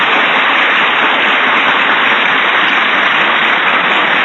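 A loud, sustained ovation for the person whose name for a little donkey won a naming contest: dense crowd applause merging into a steady hiss of clapping that holds at an even level for several seconds, with no voices over it.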